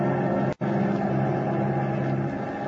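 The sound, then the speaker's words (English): Engines of a giant bomber aircraft with a crew of four drone steadily as it flies eastward through the night, a loud, continuous roar rich in low hum with a brief cut-out early on, then unbroken. No voices are heard. “As our play continues, the giant bomber with its crew of four men is roaring eastward through the night.”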